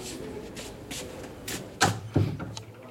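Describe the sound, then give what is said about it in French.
A door is pushed shut with two solid thuds, one right after the other, preceded by soft shuffling movement. “Ferme la porte.”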